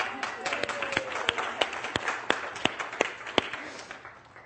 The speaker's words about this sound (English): Isn't he great? Give him a round of applause for showing up.